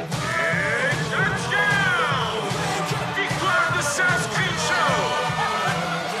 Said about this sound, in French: Hurlement de joie avant le drame.